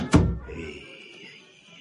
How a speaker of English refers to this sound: She locked the door, for God's sake.